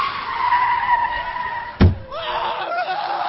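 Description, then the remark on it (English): A New York Times delivery truck's tires screech loudly for nearly two seconds in New York City, cut off by a sharp, heavy thud as it halts, followed by a fainter trailing squeal and engine rumble. “I flagged down one of the Times delivery trucks. Notorious throughout New York City for attempted vehicular homicide, it has the final edition of the Times.”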